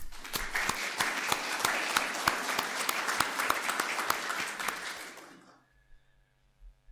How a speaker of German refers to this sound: Umso mehr freue ich mich, dass uns die landeskirchliche Gemeinschaft hier in ihrem Raum sein lässt, nun schon die ganze Zeit. Und ich glaube, da müssen wir einfach mal Danke sagen und einen Beifall klatschen.